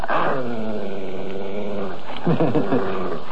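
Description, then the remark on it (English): Pedigree German shepherd police dogs growl loudly, a long continuous snarl that swells into harsher, rougher bursts near the end, with no voices. “They aren't hounds. They're genuine pedigree German shepherds. They're police dogs.”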